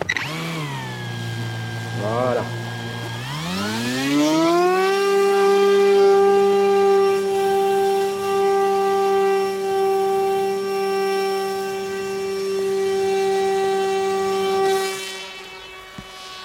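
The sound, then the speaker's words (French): A drone motor whines low and uneven after the hand-held drone is shaken to wake it, then spins up with a rising pitch over a couple of seconds and settles into a loud, steady buzzing hum as it lifts off into the wind above a field plot, with brief speech. “Là, j'ai le drone entre les mains, je vais le secouer un petit peu pour le réveiller, en fait, pour le faire partir, et vous allez entendre le moteur qui va partir.”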